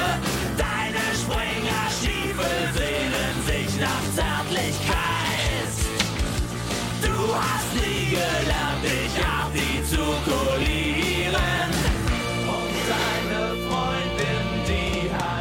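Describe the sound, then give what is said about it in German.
A loud, driving German punk rock song plays at full volume, with distorted guitars, pounding drums and raw sung vocals, dense and energetic without a break throughout. “…, …, leider so aktuell wie nie.”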